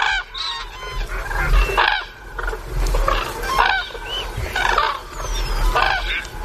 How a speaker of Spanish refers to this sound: Pero a mí me encanta ver a las grullas y escucharlas de noche cuando están metidas con las patas en el agua en un dormidero.